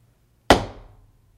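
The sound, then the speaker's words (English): A small piece of tile, knocked through the air as Kyogen was scything grass, strikes a bamboo stalk: one sharp, bright knock with a woody, ringing tail that fades over about half a second, alone against near silence. “One day, as Kyogen was scything grass, a small piece of tile was knocked through the air and struck a stalk of bamboo.”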